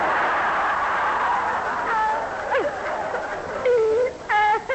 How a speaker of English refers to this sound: Oh, stop grizzling, woman.